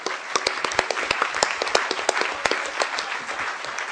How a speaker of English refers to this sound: I don't know if anyone saw. People are applauding that, but.